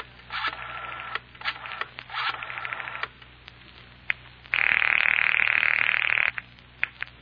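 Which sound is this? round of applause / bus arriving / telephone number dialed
telephone number dialed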